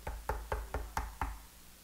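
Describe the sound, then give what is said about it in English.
Six quick knocks on a door, evenly spaced in a steady rhythm, fairly loud, with nothing else in the background. “Why would Jesus be knocking on the door of his church?”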